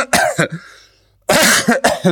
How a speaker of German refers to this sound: Nee, ich bin früh aufgestanden und mir geht's wirklich nicht so gut und mein Husten und ich habe auch sehr schlecht geschlafen.